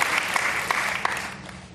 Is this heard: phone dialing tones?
no